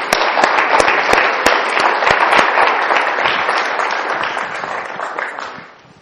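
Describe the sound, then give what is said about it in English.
A crowd applauds loudly to greet a man as he comes up to light the candle of hope, with dense, steady clapping full of sharp individual claps. It holds strong for about five seconds, then fades away quickly at the end. “And I'd like you to just put your hands together and greet him as he comes and shares with us and lights the candle of hope for us today.”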